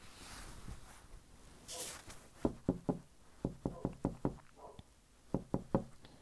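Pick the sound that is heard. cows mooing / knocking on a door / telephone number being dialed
knocking on a door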